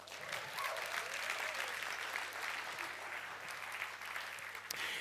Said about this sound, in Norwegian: La oss gi en applaus for mødre.